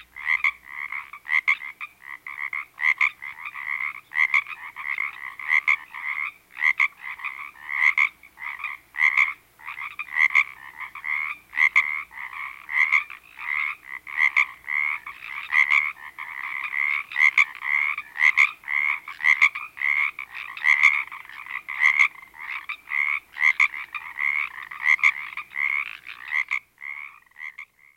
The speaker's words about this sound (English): Along the West Coast, an entirely different frog sounds off in the spring. You've probably heard its call in various movies made in Hollywood. It's our only native frog that actually goes ribbit, the Pacific tree frog.